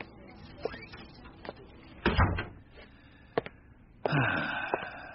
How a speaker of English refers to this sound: Shut the door.